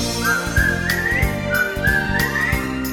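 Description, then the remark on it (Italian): A bright whistled melody glides and wavers over steady backing music with a rhythmic bass pulse, the tune repeating a rising phrase twice across the few seconds. “Se dimentichi la password, fischiettando ti dirò.”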